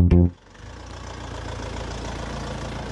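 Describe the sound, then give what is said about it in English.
A bus engine idles at a bus stop with a steady, low rumble and faint knocking throb, opened by a brief loud tonal blast in the first moment. No one speaks. “Topomok, the bus stop at our final destination.”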